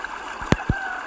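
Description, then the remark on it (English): Water laps softly around a sailing yacht at sea while two or three short, hollow wooden knocks sound as the sail and hull creak and shift on the waves. “Can hear the creaking of the sail.”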